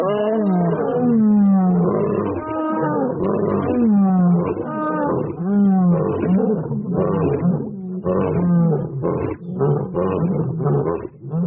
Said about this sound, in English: Now, in the control conditions, in which lions got spritzed with a simple saline solution, about half of them roared in return, maybe 50 or 60 times.